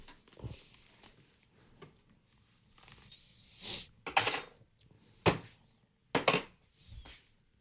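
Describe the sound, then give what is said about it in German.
Espresso beans poured into a coffee grinder, heard as several short rattling bursts spaced a second or so apart, with quiet gaps between and no talking. “Ja, dann befüllen wir die mal. Ja, gut, ich mache hier mal ein bisschen. Gleicher Espresso, gleiche Tüte.”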